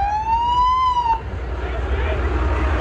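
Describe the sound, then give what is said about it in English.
The siren of fire engine number 5, a fire truck made in Marion, wails in a single rising tone that fades out after about a second, leaving the low rumble of traffic and engine noise. “That's engine number 5 you're hearing.”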